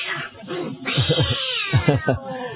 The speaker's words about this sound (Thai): นี่เป็นซาวด์เอฟเฟคเกิดขึ้นจริงในขณะที่กำลังออกอากาศ เสียงแมวมันเข้ามาทะเลาะกันอยู่ข้างๆตรงนี้